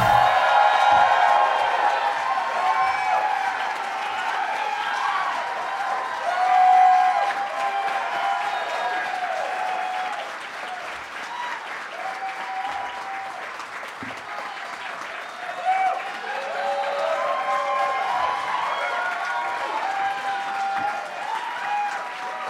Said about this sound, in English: You guys clapped for so long, just made it sound like I was lazy getting out here. But I appreciate it.